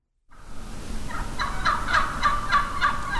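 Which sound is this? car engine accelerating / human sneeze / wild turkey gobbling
wild turkey gobbling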